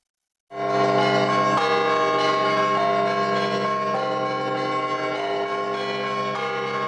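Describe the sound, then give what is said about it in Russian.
Church bells ring continuously in the bell tower of the Bolshoy Zlatoust church, loud, with overlapping strikes and long ringing tones layered into a dense, sustained peal with no voices. “Ее ученики в течение 3 месяцев будут изучать основы музыкальной грамотности, теорию устав колокольного звона”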